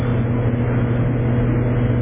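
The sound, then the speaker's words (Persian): A steady, low engine rumble from a car outside, droning evenly at moderate loudness for the whole stretch with no voices over it. “مالی ماشین بیرونه.”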